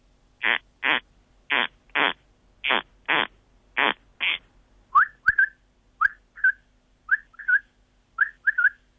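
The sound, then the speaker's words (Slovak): A corncrake repeats its harsh, dry double rasp four times in a steady rhythm, then a common quail takes over with short, liquid three-note calls repeated several times. No talking. “Určite aspoň toho jedného poznajú naši poslucháči, to je prepelica, ktorá žije na poliach, a druhý je chraptáč polný.”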